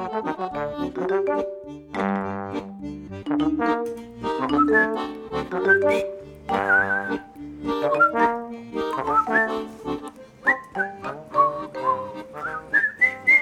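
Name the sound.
person whistling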